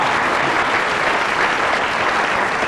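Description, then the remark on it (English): A steady burst of audience applause, many hands clapping densely and evenly at a loud, sustained level throughout, with no voices standing out. “Applause for Timbert Taylor, because...”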